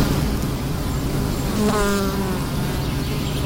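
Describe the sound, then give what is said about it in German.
A bee buzzes past in flight, its droning hum rising briefly out of a steady outdoor background before fading away again. “Die Bienen fliegen und ihr Honig ist gefragt.”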